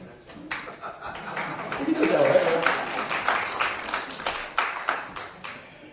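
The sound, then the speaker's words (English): An audience at a church applauds steadily for several seconds after a trick, a dense wash of claps with a few sharper individual hits, and a brief voice or laugh rising over it partway through. “I knew you're not ready to be applauding and everything for that.”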